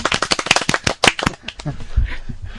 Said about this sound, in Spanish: Un aplauso, por favor.